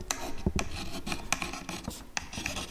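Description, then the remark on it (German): A slate pencil scrapes across a small writing slate, a dark rectangular stone, in short, rasping strokes with sharp bright edges, repeating irregularly with no voices, as letters are written in an old-style school setting. “Wir haben auch keinen Stift, wir haben so einen Griffel.”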